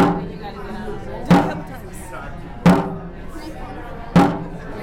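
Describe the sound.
A drum used to beat the rowing rhythm in dragon boats is struck three times in Madison at a slow, fairly even pace, each hit a loud, booming thud that rings briefly, with voices murmuring underneath throughout.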